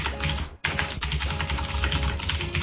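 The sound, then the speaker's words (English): Loud, rapid typing on a computer keyboard, keys clacking hard in a dense continuous burst with a brief pause near the start, aggressive-sounding. “That is some angry typing.”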